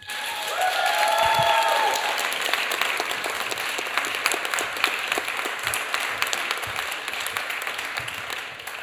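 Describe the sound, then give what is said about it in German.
Sustained audience applause, a "10-point" applause toward the stage welcoming the first performer of the second half: a dense wash of many hands clapping steadily for several seconds, with a few faint voices or cheers briefly audible near the start. “Und ihr dürft wieder mit einem 10-Punkt-Applaus auf diese Bühne klatschen.”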